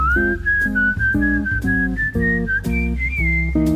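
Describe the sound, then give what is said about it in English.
A person whistles a simple, lilting melody in long sustained notes, riding clearly over a steady rhythmic chordal accompaniment that plays beneath it throughout. “I'd whistle a little tune for you.”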